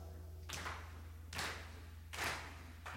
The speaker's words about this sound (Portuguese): Es tradición en esta rola que ustedes se queden aquí llevando el ritmo con las palmas.